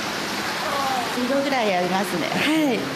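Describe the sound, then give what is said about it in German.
A steady rush of flowing water in a hot spring bath, about 42 degrees, fills the whole recording, a constant splashing wash, with voices talking briefly over it partway through. “Und dann geht's endlich hinein ins Badebecken.”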